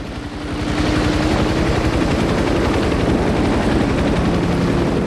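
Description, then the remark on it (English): Helicopter rotors start up as pilots take off in their helicopters from a rescue centre, quickly building into a loud, steady, rapid chopping thump that fills the scene, continuous, with no voices. “Pilots get into their helicopters and take off.”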